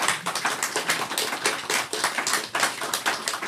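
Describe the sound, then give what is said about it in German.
A short burst of audience applause after a live question-and-answer session, dense overlapping handclaps rattling steadily at an even volume for a few seconds, with no voices over it. “Also das gibt jetzt nochmal wieder einen Applaus, finde ich, ja.”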